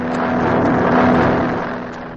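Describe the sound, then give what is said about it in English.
A steady, loud engine drone with a low hum and broad roaring rush, swelling slightly in the middle and easing off toward the end, from the motor of a plane in flight, carrying Squeaky and Rocket after take-off. No voices. “As the scene opens today, Squeaky and Rocket are riding along in a plane.”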